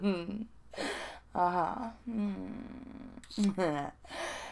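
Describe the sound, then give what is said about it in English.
A little gasp among a series of short, breathy vocal sounds: sharp intakes of breath alongside voiced, wavering tones, several bursts with brief pauses, moderately loud, no clear words. “Oh, like that little gasp you just made as I wrap my hand around your big boy penis.”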